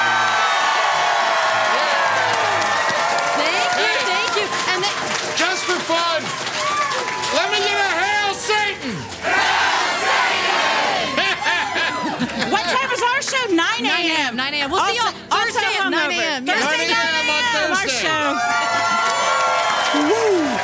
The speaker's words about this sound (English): And make a loud cheer because you're live on Side Stories right now and Sinisterhood. Yeah.